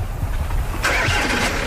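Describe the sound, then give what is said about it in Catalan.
A car engine turns over and catches partway through as a man drives off, its low idle rumble swelling into a louder, rougher roar that continues steadily to the end. No one speaks. “els planta marxant en cotxe.”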